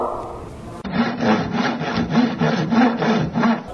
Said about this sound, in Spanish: Ahora tenemos un serrucho.